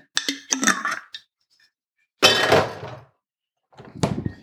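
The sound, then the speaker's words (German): Cups and dishes clink and clatter for a moment, then coffee is poured into milk in a cup in a short, hissing gush, followed by another brief rattle of handling. No one speaks. “Ich musste mir noch kurz Kaffee in die Milch gießen.”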